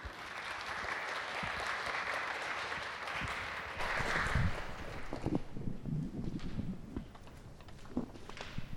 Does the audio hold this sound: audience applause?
yes